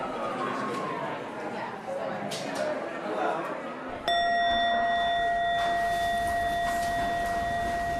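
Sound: bell ringing out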